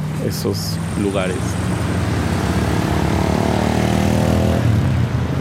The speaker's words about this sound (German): In Xochimilco, bekannt für seine schwimmenden Gärten, teils ein Naturschutzgebiet und gehört zum UNESCO-Weltkulturerbe. Früher habe ich mehr Reiher gehört, große Vögel und ihren Flügelschlag. Jetzt werden sie vom urbanen Rauschen übertönt.